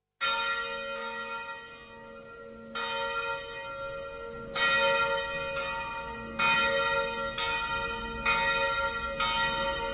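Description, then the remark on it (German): Church bells ring out in a steady peal, each strike sharp and bright with long overlapping resonant hum, several strikes spaced every second or two, loud with no voices. “Zu einem davon zählen Glocken, denen man Zauberkraft zusprach.”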